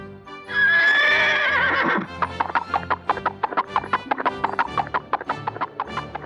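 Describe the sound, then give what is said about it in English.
A loud horse whinny with a shaky, rising-and-falling pitch lasts about a second and a half, then gives way to a steady run of hollow hoof clip-clops. “Horse.”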